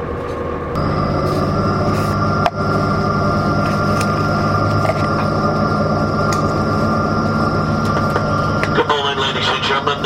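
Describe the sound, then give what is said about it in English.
Steady rumble and hum inside a moving passenger train on the 838 service to London King's Cross, England, calling at Howden, Selby, Doncaster, Retford and Grantham; loud and continuous, with a brief thump a few seconds in and a shift in the drone near the end. “welcome on the 838 vessel train service to London King's Cross.”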